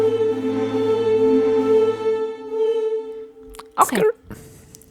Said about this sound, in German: Das ist so ein Furzgeräusch danach.